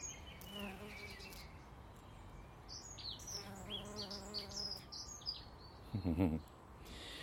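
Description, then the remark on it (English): Bees of different types, some yellow-tailed and some orange-tailed, buzz around a flowering plant with a steady droning hum that rises and swells as one passes, while faint birdsong chirps in the background of a quiet outdoor setting. “Isn't there something really summery about bees?”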